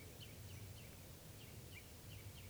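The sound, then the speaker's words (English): Faint perched birds give a quick series of short, high chitter notes, repeating every few tenths of a second over a steady hiss of background noise, with no one talking. “Recording, the birds are just perched here for a long time giving alarm calls to each other, and now they're giving chitter notes.”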